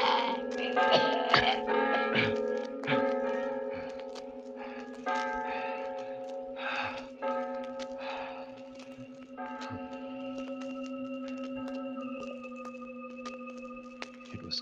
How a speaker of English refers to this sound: You'll never ring those cursed bells again.